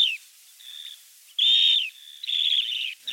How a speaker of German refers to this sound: unser heutiger Vogel des Tages, den Fabian jetzt mit einem Fingertipp mal kurz einspielen wird